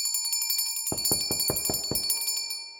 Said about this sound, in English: I ring the bell harder.